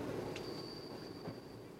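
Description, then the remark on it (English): A train carriage rumbles steadily along the rails, a dense low roar with a thin high whine running over it and a couple of faint knocks, heard from inside and with no voices. “Yeah, I'm on the train, mate.”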